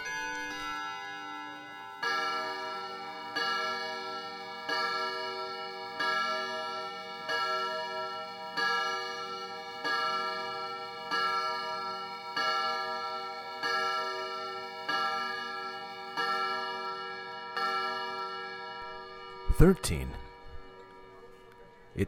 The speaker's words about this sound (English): It rang 13 times. It's a bright, cold day in April. Why would the clock strike 13? This is something wrong about this day.